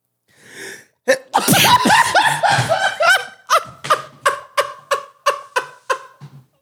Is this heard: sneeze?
yes